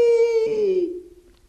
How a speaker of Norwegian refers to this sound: Så galer hanen på Brustad. Kykkeliky!